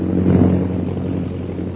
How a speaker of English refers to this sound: Bring the plane down as low as you can. Perhaps we can make them out from the air.